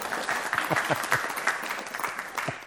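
An audience applauds the speaker's assistant, a dense wash of many overlapping hand claps holding an even level throughout, with no voices rising above it.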